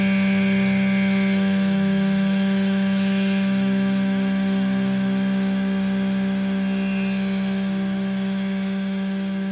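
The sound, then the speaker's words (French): A loud, sustained feedback howl of stacked, distorted tones rings steadily for about ten seconds, dense and unbroken, with no voices. “Bah ouais, on aime ça les Larsen”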